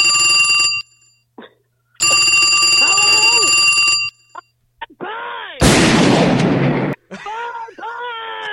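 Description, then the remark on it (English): A telephone rings twice in steady bursts with a pause between, followed by a short burst of noise and some voice-like warbling sounds; a man calling a customer service number. “He called their customer service number.”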